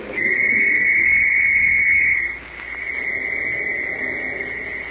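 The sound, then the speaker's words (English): A police whistle, blown by a boy, shrills loudly through a valley in one long, steady blast of about two seconds, then carries on as a fainter, thinner tone that fades out as it echoes, with no one talking. “It's a police whistle Mr. Kent gave me a long time ago.”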